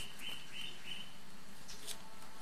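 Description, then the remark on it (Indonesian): A water bird that has fallen into a fish pond gives three quick, high, thin chirps in an even rhythm, followed by a couple of fainter calls, heard over a steady background hiss. “Ini burung. Burung. Ini burungnya kejebur. Oh iya, burung air.”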